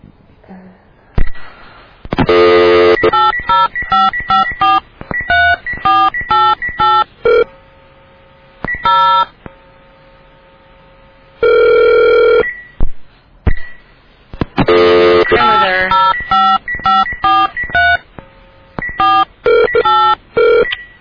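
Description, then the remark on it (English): Loud touch-tone keypad beeps from dialing a telephone call to California tap out in rapid bursts, separated by pauses and a steady held tone, then a second flurry of dialing tones follows. “There's something funny going on with my phone.”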